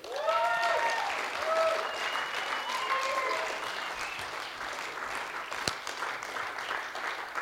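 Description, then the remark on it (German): Sustained audience applause welcoming a guest onto the stage for an interview, a dense wash of clapping lasting several seconds with some voices calling out over it, tapering slightly toward the end. “Also, lass uns einen herzlichen Applaus geben auf unserer Bühne zum Interview.”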